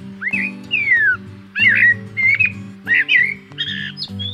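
A Eurasian blackbird sings in three or four fluty, warbling phrases separated by short pauses, with steady low tones sounding faintly underneath.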